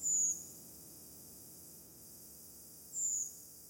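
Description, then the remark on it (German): Two thin, high-pitched drawn-out 'tseep' calls of a redwing flying in the night sky, about three seconds apart, faint against a quiet night background with low rumble. “Die wunderschöne Rotrossel.”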